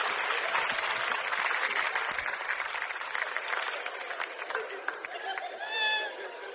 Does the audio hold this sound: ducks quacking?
no